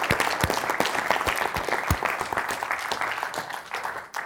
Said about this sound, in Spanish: Felicidades, pase a su lugar, un aplauso para ella.